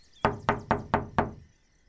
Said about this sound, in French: Trois énormes coups résonnent dans le manoir. Mais qu'est-ce que c'est que ça? Nous avons de la visite à cette heure-ci?